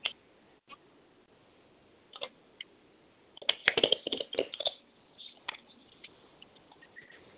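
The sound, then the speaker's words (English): Soft, quiet riffling and clicking of spirit animal cards being shuffled, a few scattered ticks building to a dense burst of rapid flicks midway, then tapering into sparse taps, with no one talking. “1 second while I shuffle.”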